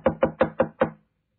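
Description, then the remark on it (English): Five quick, firm knocks on the wooden door of hotel room 1234 in an even rhythm, fairly loud, followed by silence. “Knock again.”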